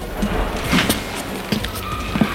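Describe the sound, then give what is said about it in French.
Several short mechanical clunks and rattles as doors are opened one after another along a long, dark upstairs corridor, spaced irregularly over a quiet, muffled background, moderately loud. “Gilles ouvre des portes.”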